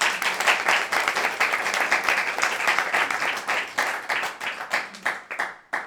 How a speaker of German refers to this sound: Ihr dürft nicht zu viel klatschen, weil sonst höre ich irgendwann nicht mehr auf.